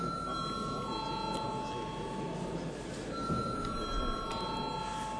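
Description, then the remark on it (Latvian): An electric chamber bell rings steadily for several seconds in the Latvian parliament before a vote, a sustained, bright, buzzing tone that holds without pause over a low murmur of background voices. “Lūdzu zvanu.”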